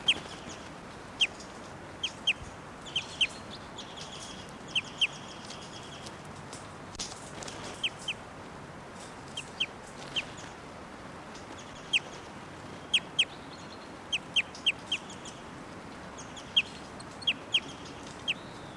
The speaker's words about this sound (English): Now in 687's cage. And 687's giving some flight calls. That's her. 687.